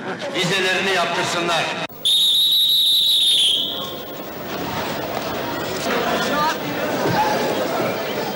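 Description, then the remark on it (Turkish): A busy crowd murmurs and chatters on platform 11 of a railway station, among workers leaving by the evening train to work in Germany, then a loud, shrill whistle blasts for about a second and a half before the hubbub of many voices carries on. “11. Peron.”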